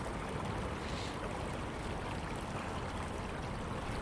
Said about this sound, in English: I was going across a small brook. The water level's gone down from the other day when I was down here.